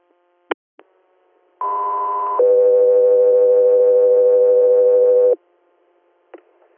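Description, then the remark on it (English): Radio dispatch alert tones for Scout 3 Air: a short, steady higher tone shifts into a longer, lower sustained tone, loud and clean, with squelch clicks before and after. “Scout 3 Air, stand by for tones.”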